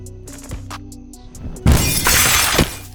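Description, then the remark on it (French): Window glass shatters in a sudden loud, bright crash that rings on for about a second as a window is broken to get out, preceded by a quieter stretch of low hum and a few soft knocks. “Une fenêtre. C'est ma porte de sortie.”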